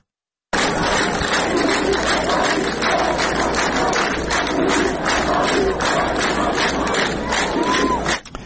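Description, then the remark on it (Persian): A large crowd at a burial in Izeh, Iran, on a Friday chants in unison, loud and continuous, many voices shouting slogans against the Islamic Republic in a steady rhythmic cadence for about eight seconds. It is the burial of 13-year-old Artin Rahmani. “مردم ایزه همچنین روز جمعه در مراسم به خاکسپاری آرتین رحمانی 13 ساله، یکی از سه کودک کشته شده در ایزه، شعارهای علیه جمهوری اسلامی سر دادند.”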